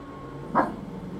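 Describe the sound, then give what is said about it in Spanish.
A female dog named Suriña, who likes music, lets out one short, sharp bark midway through, against a steady low background hum with no talking. “Estou con a miña perra Suriña, que lle gosta a música.”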